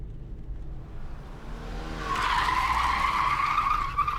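During a near crash, a car's tires skid with a sharp, sustained squeal that rises in from about halfway through and holds steady over a low engine rumble, with no talking.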